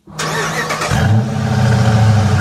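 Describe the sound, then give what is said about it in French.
A Ram pickup truck engine cranks and catches, then settles into a loud, deep rumbling idle that swells slightly with a low throaty growl. No voices. “Un pick-up? Ouais.”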